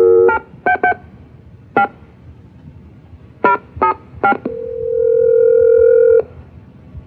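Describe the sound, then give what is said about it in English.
Telephone dialing to call someone's parents: about seven crisp touch-tone beeps in uneven clusters, followed by a steady, loud dial tone that holds for nearly two seconds before cutting off. No one speaks. “Well, let me call up Elaine's parents.”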